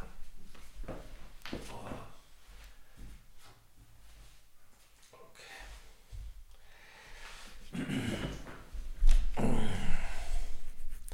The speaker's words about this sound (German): So, macht der Hund hier wieder die Türen auf.